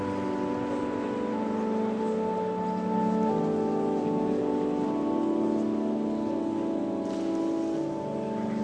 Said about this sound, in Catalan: I ara els aplaudiments de la gent. De la gent.